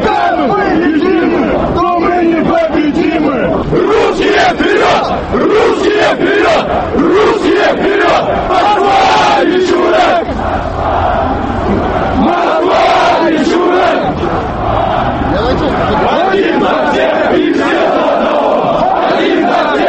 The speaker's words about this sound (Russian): Их собравшиеся использовали в качестве трибуны для исполнения своих кричалок. В основном эти выкрики носили ярко выраженный националистический и конкретно антикавказский характер.